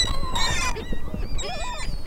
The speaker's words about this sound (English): Then, temperatures were in the 30s, ice covered much of the water, and the only sounds you could hear were those of geese and seagulls.